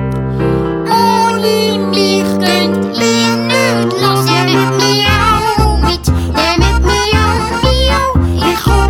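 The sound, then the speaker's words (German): Repeated high, wavering kitten-like meows ring out over a loud, busy music track with steady bass notes, and a beat kicks in partway through; the mewing may be sung or imitated by a voice. “Und es meint, es sei schon gross, Katze wend spazieren. Das Kleinst tut reklamieren.”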